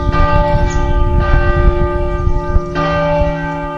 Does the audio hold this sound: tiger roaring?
no